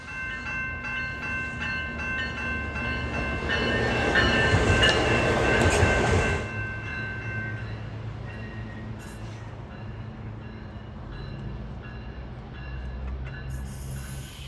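A model railroad train, run by another crew on a busy layout during an operating session with 15 to 20 people, runs along its track. A steady mechanical rumble with thin high whining tones swells louder for a couple of seconds, then settles back to an even hum. No one speaks.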